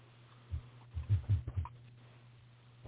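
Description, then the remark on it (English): A Harley motorcycle engine, tuned a little rich, idles with a low, steady rumble, broken by a few uneven, lopey thumps in the middle. The sound is fairly quiet, with no voices. “That was really cool hearing the bike purr in the background.”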